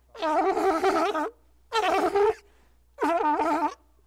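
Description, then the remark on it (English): A sea lion at a zoo sea lion show lets out three loud, harsh, wavering honks, each lasting under a second with short pauses between, a groaning attempt at singing. No one speaks. “Now it's trying to sing.”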